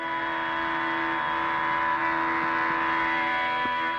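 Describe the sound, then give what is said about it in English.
Part of a recording of a 24-hour-long minimalist drone that included a musician: a steady, unbroken musical drone holds a few sustained pitches with a dense, buzzing stack of overtones, staying loud and nearly unchanging throughout, with no voices. “That's part of a recording of a 24-hour-long drone that included ….”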